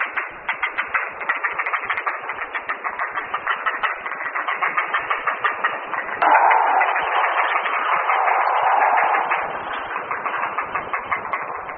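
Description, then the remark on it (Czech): A heron breeding colony fills the air with a dense, unbroken chatter of rapid clacking and rattling calls, overlapping into a steady mechanical-sounding din that swells briefly midway. “Protože hnízdění neprobíhá u všech ptáků současně, je v kolonii slyšet změť hlasů.”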